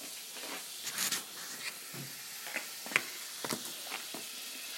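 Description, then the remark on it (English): Butter sizzles steadily as it melts in a saucepan over a hot ring, a soft continuous hiss broken by sharp little crackles and pops scattered irregularly throughout, with no voices. “You can hear that sizzling there, it's melting the butter.”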